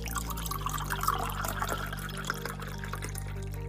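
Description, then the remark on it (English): Cranberry juice being poured steadily from canteens into an inner chamber, a continuous trickling and splashing over a low background hum, with no voices. “Using canteens filled with cranberry juice, they gingerly poured the contents into the inner chamber that contained the uranium soccer ball and palladium housing.”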